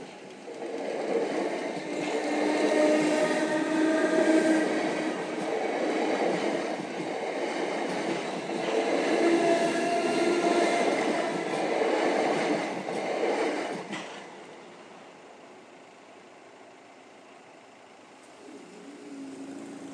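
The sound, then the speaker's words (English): A train rolls slowly past in the morning, a sustained rumble with rhythmic clatter of wheels on rails for about fourteen seconds, then fades to quiet background. “Whatever train it is, it seems to be taking its time this morning.”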